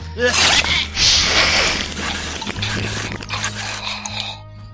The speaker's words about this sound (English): Oh, chew that. Chew that. I knew you would lack that.